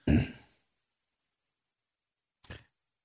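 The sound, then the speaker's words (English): A single loud, explosive sneeze bursts out and trails off within half a second, followed after a pause of about two seconds by a brief, softer breathy sound. “Bless you.”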